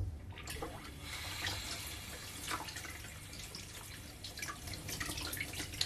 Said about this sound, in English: And I can't really use this now because it's been in soapy water. Well, you could wash it, couldn't you? Should I wash it? Alright, I'll try and wash it.